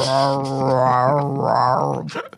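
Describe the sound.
A person imitates a dog begging for a biscuit, making a droning, didgeridoo-like whine: one continuous nasal hum, about two seconds long, wobbling up and down in tone, fairly loud.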